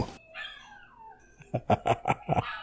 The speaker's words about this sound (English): Yeah, no. I think my dogs wanted to chime in.